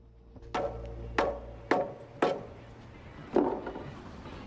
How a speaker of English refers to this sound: hammers the wooden boards out of the steps leading up to the front porch.